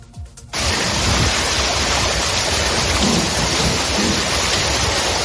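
heavy rain with thunder

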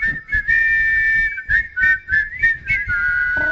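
person whistling a tune

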